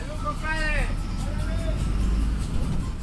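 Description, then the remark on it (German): A steady low engine rumble inside a fully crowded bus on a bumpy three-hour ride through chaotic San Salvador traffic to Suchitoto, with indistinct chatter from passengers and a couple of rising harmonic tones like a horn or brakes cutting through the noisy ride. “Eine 3-stündige, holprige Busfahrt im vollbesetzten Bus führt durch den chaotischen Verkehr San Salvadors bis nach Suchitoto.”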